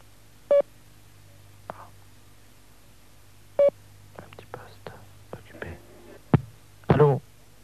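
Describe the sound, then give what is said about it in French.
Two short, clear telephone beeps sound about three seconds apart over a faint line hum after the telephone line drops, followed by soft, breathy whispering and small clicks. “La ligne a sauté, ce qui lui arrive parfois, elle est un peu folle”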